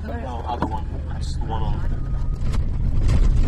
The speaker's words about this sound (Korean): 트럭을 타고 밤에 개를 잡았던 해변의 그 모래 위를 달려서 야생마를 찾아 나섰습니다.